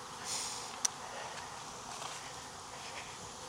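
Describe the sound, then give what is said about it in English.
A steady, soft drone of many bees buzzing together around an opened hive and comb, remnant bees left after a shake, continuous, with a faint hiss behind it and one brief click partway through. “I got some remnant bees that didn't hang off of the shake. These are the bees that are crawling up my legs and going in, but that one is in.”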